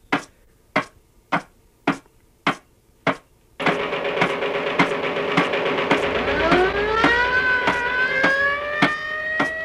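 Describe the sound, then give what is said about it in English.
Evenly spaced sharp bangs fire off alone, then a dense roar kicks in as a loud siren winds upward in pitch, the rhythmic machine-gun bursts, played from a record on a turntable, continuing underneath, with the shrill edge of a police whistle blown by mouth in the mix. “I got the machine gun over here on a record. I have the siren over here, and in my mouth I'm going to have a police whistle.”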